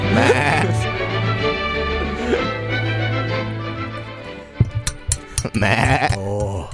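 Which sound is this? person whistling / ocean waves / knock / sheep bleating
sheep bleating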